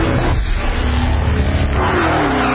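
A powerful supercharged V8 engine in a Dodge sedan roars continuously, its deep rumble swelling with revving and tire noise throughout, loud and dense with no voices.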